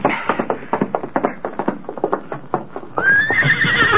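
Quick, steady hoofbeats clip-clop for a few seconds, then a horse lets out a loud, drawn-out whinny that carries to the end. No one speaks.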